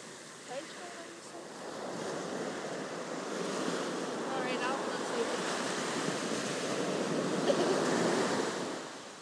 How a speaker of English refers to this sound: No, I'm wanting people to listen to the waves.